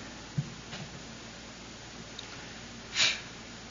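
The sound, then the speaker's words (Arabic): A single short, sharp sneeze bursts out near the end, moderately loud, after a few faint clicks against a quiet background. “يرحمك الله.”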